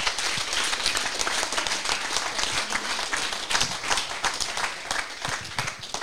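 A crowd applauds steadily at the installation of Pontac Radio in a former college building, dense overlapping claps forming a continuous, fairly loud wash of sound throughout, with no speech over it.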